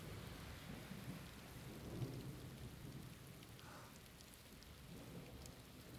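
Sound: rain falling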